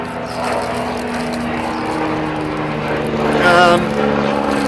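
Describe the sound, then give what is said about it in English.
A steady, droning engine roar from a pair of rescue helicopters passes overhead, holding loud and constant for several seconds and swelling slightly near the end, with a brief voice-like murmur mixed in. “Here comes the life rescue chopper. Pair of choppers.”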